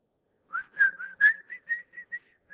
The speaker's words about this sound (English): And when I would walk down the street, we live way out in the country. When I'd walk down the little dirt road, I'd whistle. Just because I was scared and I wanted the demons to stay back away.